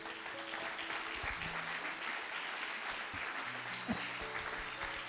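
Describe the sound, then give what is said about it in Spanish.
A church audience breaks into steady, dense applause for the Lord, many hands clapping together in a continuous wash of sound for several seconds, with faint tonal hums underneath and no talking. “¿Querés dar un aplauso al Señor?”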